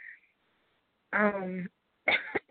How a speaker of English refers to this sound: excuse me, sorry that I keep coughing.